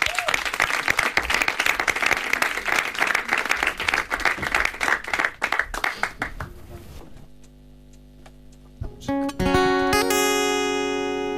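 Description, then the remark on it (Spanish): Loud, dense audience applause at a show as a group returns to the stage to close the programme, with rapid overlapping claps for about seven seconds, then it fades and sustained musical tones begin. “Fuerte aplauso.”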